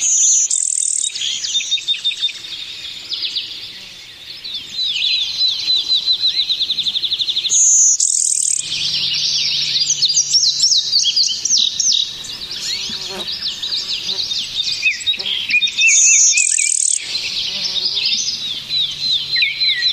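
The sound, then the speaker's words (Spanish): Many birds chirp and sing at once in a dense, continuous chorus of high, rapid trills and tweets, fairly loud, with no one speaking, in New York City during the COVID pandemic, perched on sidewalks, streets, trees, power lines and buildings. “en medio de la pandemia del COVID, han vuelto a volar, a hacer escala y cantar libremente sobre las aceras, las calles, los árboles, los cables del tendido eléctrico y los edificios de Nueva York.”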